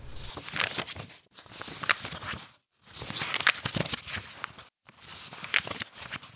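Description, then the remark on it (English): Book pages are turned one after another, four crisp rustling sweeps separated by brief pauses. Moderately loud, with no voices. “Well, according to the sound, as you can hear the turning of the pages, we have our time for our book recommendation.”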